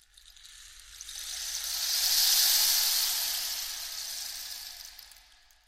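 A rain stick pours out a steady, rushing hiss of tiny pattering grains, swelling gradually to a peak midway and then slowly fading, heard on its own without any voices.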